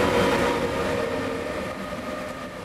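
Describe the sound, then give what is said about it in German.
A train from Austria pulls into a station, rumbling steadily with a broad mechanical roar and a faint tonal hum, gradually easing in loudness as it slows. No voices are heard. “Denn kaum sind die ersten Migranten kontrolliert, fährt auch schon der nächste Zug aus Österreich ein.”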